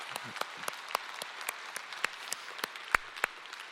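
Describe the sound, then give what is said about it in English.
An audience claps in advance to cheer on a group about to come up. It lasts a few seconds, a dense patter of overlapping hand claps with sharper individual slaps popping out irregularly above the steady wash of applause. “Okay, so in advance, in faith, let's clap.”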